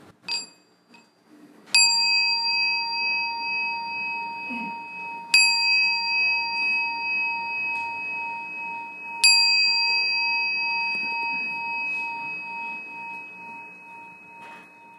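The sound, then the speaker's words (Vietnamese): A meditation bell is struck three times, several seconds apart, to open an afternoon sharing session at a meditation retreat in Orange County, California. Each strike rings out with a clear sustained tone that overlaps the next, with no talking. “Chúng ta lắng nghe tiếng chuông khi chúng ta có buổi chia sẻ chiều hôm nay.”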